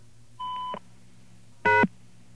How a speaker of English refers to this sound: Well, what we found there was an answering machine that does something when you hit a tone. If you hit the star key, it jumps to the beep.